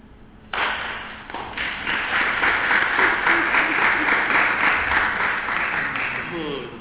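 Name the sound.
audience clapping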